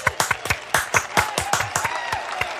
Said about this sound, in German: Und ich finde, diese Zahlen sind einen kurzen Applaus wert.